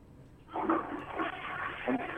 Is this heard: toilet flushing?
yes